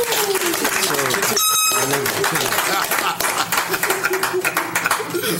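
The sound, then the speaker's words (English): A crowd applauds and cheers loudly throughout for a conversation that has just ended, with steady clapping and shouting voices, plus a short, bright horn-like blast early on. “Listen, make some noise for this rich conversation.”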